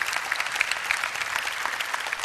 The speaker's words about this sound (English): I want to ask our connections team to find our first-time guest, if you would. Let's give our first-time guest another big hand clap. Thank you for coming.